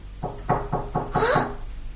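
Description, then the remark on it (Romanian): A heartbeat in a person's chest sounds as a quick, steady run of five dull thumps, evenly spaced, with a brief higher-pitched chirp over the final beats. No one speaks. “Ia ascultă puțin ciocanelul din pieptul tău.”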